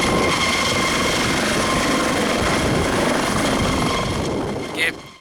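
A helicopter's rotor thumps loudly and steadily, a dense, continuous chop with engine roar that holds for several seconds before a brief high whine and a quick fade.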